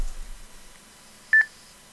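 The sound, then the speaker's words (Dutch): A quick pair of DTMF keypad tones, two short bright beeps in rapid succession, sent over radio to link the PI3XDV repeater to XRF088 Bravo, standing out alone against a faint, steady background hiss. “Dat doen we met DTMF.”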